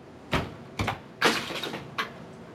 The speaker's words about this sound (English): I hear a rustling. Yeah, he rustles a lot. Mm. Lots of rustling.